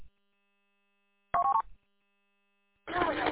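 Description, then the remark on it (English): A short, loud burst of telephone dialing tones after silence, then a second, noisier burst of tone and static at the end, with no clear talking. “Until I get there, and then I'm gonna make a phone call, actually.”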